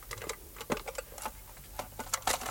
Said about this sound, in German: Warte, Augenblick. Mal sehen, ob wir den Kasten aufkriegen.